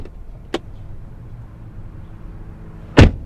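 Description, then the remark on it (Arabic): The door of a brand-new car slams shut hard, one loud thud near the end, preceded by a smaller click earlier, with a low engine-like rumble underneath and no talking. “ما قلنا بشويش على الباب؟”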